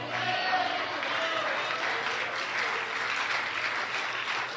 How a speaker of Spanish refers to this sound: Les tengo dicho que si van a aplaudir al Señor, lo aplaudan con ganas. A los hombres no me los aplaudan.